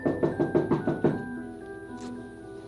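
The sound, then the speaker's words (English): Knocking at a door: a quick, even series of about six firm raps, then a pause and a lingering tone fading out, with no voices. “Somebody at the door already.”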